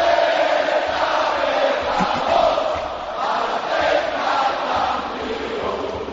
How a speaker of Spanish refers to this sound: Se ha apagado la megafonía y es el público de Balaídos el que corea, el que grita, el que canta el himno del Celta.